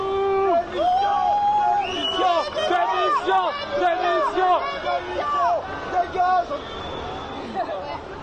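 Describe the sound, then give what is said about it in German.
A large crowd of spectators at the national holiday parade in Paris, France boos and jeers loudly at President Emmanuel Macron, many voices overlapping in drawn-out, falling howls that continue without pause for the whole stretch, dense. “Die Franzosen buhen also ihren Präsidenten aus.”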